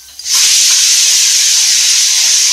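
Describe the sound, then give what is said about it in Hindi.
A pressure cooker whistle, on a cooker cooking khichdi of rice, dal and vegetables, bursts on after a brief quiet moment, releasing a loud, steady rush of hissing steam that continues without pause to the end. “और फिर बंद कर दिया कुकर, और कुछ देर में बजेगी सीटी।”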